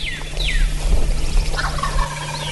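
wild turkey gobbling

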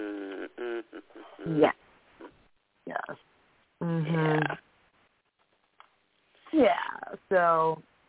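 cat meowing

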